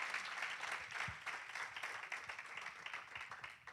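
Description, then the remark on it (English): A crowd breaks into sustained applause given as a hand clap for Jesus, many hands clapping together in a dense, steady wash of sound that holds at an even loudness for several seconds. “Boy, we ought to give Jesus a hand clap for being a perfect example.”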